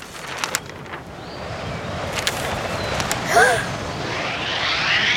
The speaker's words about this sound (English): Oh dear! Help! It's very windy today.